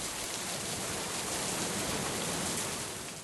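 nature, rain

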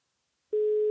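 signal or alarm, telephone line tone

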